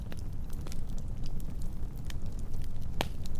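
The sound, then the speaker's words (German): A campfire crackles steadily, with irregular small pops and snaps over a low, constant roar, and one sharper, louder crack near the end. No voices. “Du hörst das Knistern und das Knacken zwischen den Rufen der Eulen und dem Rauschen der Bäume, wie ein Wiegenlied, das erklingt.”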